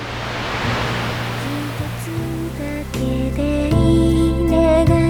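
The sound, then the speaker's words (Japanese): Ocean waves wash steadily over sand, washing away a sand drawing, in a soft, broad hiss, and gentle music with sustained tones rises over the surf and grows fuller as it goes on. “気がつくと、私の描いた砂絵は波に飲まれて消えていた。”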